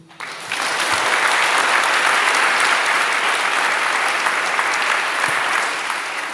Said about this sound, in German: Lang Applaus hat's gegeben für unsere Rednerin,